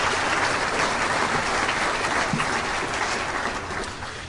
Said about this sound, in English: Can we have a round of applause for all of our sponsors? Really appreciate it.